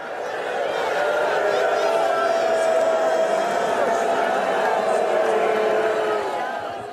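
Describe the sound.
A large stadium crowd booing a player in a steady, sustained roar of many voices, holding a low droning pitch and staying loud and unbroken for about seven seconds.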